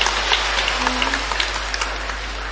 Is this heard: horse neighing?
no